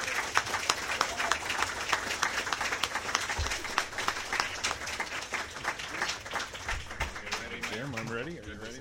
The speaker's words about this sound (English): Each of the candidates will get a 2-minute closing statement, so please no applause during the debate. You can do that right now.